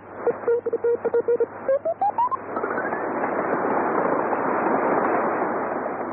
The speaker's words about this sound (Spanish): Hay otros sonidos de interferencia no intencional producidos generalmente entre los aficionados. Escuchemos un ejemplo de una interferencia no intencional de una señal telegráfica.